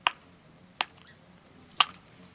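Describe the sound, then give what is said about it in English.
A woodpecker's chisel-like bill strikes a tree in three sharp, resounding whacks as it excavates a nesting cavity, spaced unevenly about a second apart, with a faint hiss of background between them and no voices. “With steady, resounding whacks of its chisel-like bill, a woodpecker excavates a nesting cavity in a tree.”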